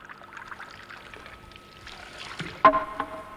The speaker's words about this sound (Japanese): はい、 じゃあ前振りしますので、獅子おどしの音がカコンとなったら読み始めてくださいね。